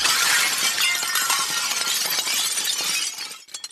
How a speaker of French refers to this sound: Elle fonça alors sur le plafond vitré, à grande vitesse, et fit éclater une partie du plafond. De gros morceaux de verre tombèrent sur le sol dans un lourd fracas.